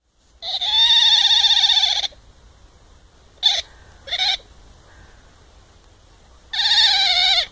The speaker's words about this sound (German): Das war ein Otter.